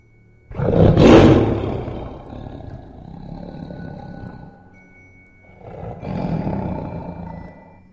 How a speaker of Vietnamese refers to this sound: Một tiếng thú giống gập trời truyền ra chấn động tất cả. Một tiếng gầm giống đến đáng sợ, làm cho bất kỳ ai nghe thấy cũng chấn động.